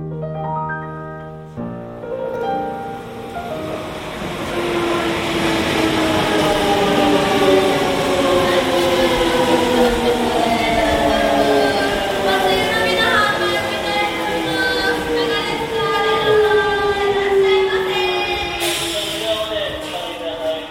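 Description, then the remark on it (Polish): A Shinkansen high-speed train from Osaka, travelling at about 240 km per hour, roars steadily for about twenty seconds, its electric motors whining in tones that slowly glide downward in pitch over the rushing rumble. “Pewnego dnia jechałam pociągiem szybkich linii Shinkansen z Osaki. To jest taki pociąg, który pędzi z prędkością 240 na godzinę”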